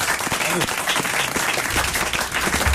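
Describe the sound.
Dense, loud applause from an audience for a game winner fills the whole clip, many hands clapping at once in a steady roar, with a brief voice or cheer rising through it early on.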